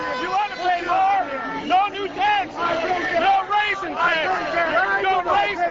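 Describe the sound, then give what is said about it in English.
Several angry voices shout over one another, loud and continuous, in a heated shouting match between public employees and people attending an outdoor taxpayers' rally, two men right in each other's face, their strained, raised pitches rising and falling above a background of crowd babble. “This spurred shouting matches that occasionally turned heated. These two gentlemen were right in each other's face.”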